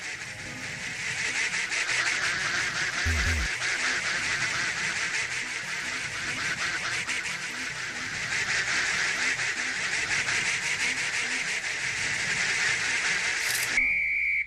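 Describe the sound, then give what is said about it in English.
A large flock of ducks wandering around quacks continuously, a dense, overlapping chorus of nasal calls that stays loud and busy throughout, with no voices over it. “So the ducks will kind of wander.”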